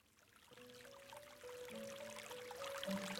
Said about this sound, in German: Ich vernahm das leise Plätschern von Wasser, zusammen mit einer beruhigenden Melodie